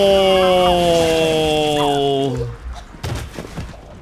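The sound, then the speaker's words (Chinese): A chainsaw held by a doctor drones loudly and steadily for about two seconds, then winds down and stops, leaving scattered clattering and thumping noises. “喂，医生，点解攞电锯啊？”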